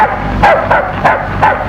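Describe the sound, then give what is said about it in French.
A large black dog at a small farm near a village in the Loire barks four times in a steady rhythm as it greets a man arriving around 10 o'clock on a fine June day; each bark is loud, with a low background hum and no voices. “Un grand chien noir l'accueille.”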